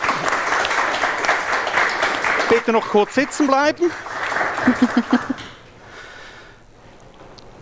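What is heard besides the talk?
audience applause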